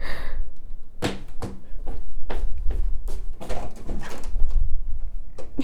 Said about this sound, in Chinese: 喂，怎么了？你在门口啊？你今天怎么过来了？那你等一下，我给你开门。